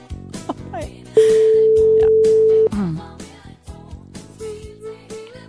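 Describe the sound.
A single loud, steady telephone ringing tone of an outgoing call sounds for about a second and a half, with voices and other background sound around it before and after.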